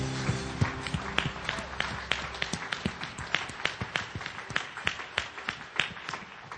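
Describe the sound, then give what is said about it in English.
A church audience claps together as a clap offering to the Lord during a morning service, a steady stream of sharp, bright claps that keeps going at an even level, while a low sustained tone underneath fades out after the first couple of seconds. “Come on now, give them a great clap offering this morning.”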